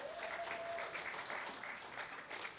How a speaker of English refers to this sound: I know he did an unbelievable job, so thank you, Coach. Yeah, you can clap for him.